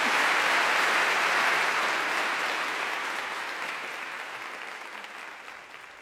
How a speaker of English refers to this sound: So please give them applause, ladies and gentlemen.